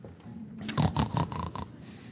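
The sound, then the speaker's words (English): A person grunts and snorts in imitation of a pig, a rough series of throaty, rhythmic snorts lasting a couple of seconds with no speech. “This is when you make pig noises to keep it real.”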